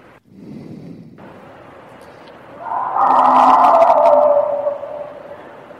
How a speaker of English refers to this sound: You'll notice they all sound fairly similar. They begin with this broadband shriek. That narrows down into a tight little kind of a howl ending.